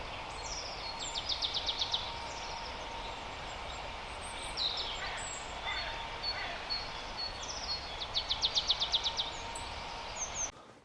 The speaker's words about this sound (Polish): Nagrałem z daleka sikory ubogą. Ale tylko dwie sekwencje, niestety. Słabo.